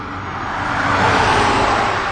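cars passing on road

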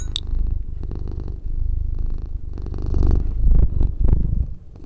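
cat purring

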